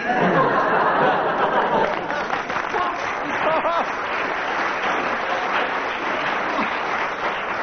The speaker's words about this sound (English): Why this applause?